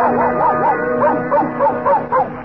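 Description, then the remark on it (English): Pluto the Pup, a cartoon dog, gives a quick series of rising, yelping barks, about half a dozen in steady rhythm, fairly loud over a sustained musical backing, as he is introduced among Mickey's Grand Opera stars. “Presenting that famous canine vassal, Pluto the Pup.”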